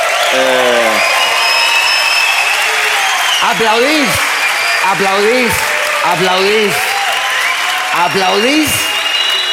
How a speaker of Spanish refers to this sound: Aplaudís. Y os explico por qué.